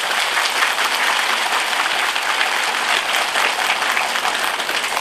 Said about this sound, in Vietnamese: Do đó chúng ta xin cho các vị Phật tử đó một tràng pháo tay.